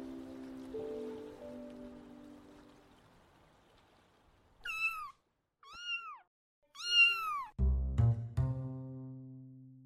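A cat meows three times in quick succession, drawn-out, rising-and-falling cries, between a steady low murmur at the start and a sudden loud, rumbling clatter near the end.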